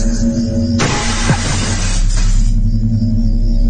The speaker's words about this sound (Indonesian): terdengar suara kaca pecah. Kontan aku keluar. Dan ketika aku lihat, salah satu figura foto orang tuaku terjatuh. Dan kacanya pecah di lantai.